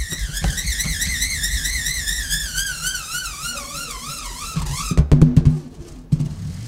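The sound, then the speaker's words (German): A high, wavering whine from a 10-cent coin spinning inside an inflated balloon. The coin's strongly ribbed edge rubs against the balloon skin. Its harmonics warble rapidly as the pitch slowly descends, ending with a few rattling clatters and low rumbles. “hat in einem aufgeblasenen Luftballon ein 10-Cent-Stück kreisen lassen.”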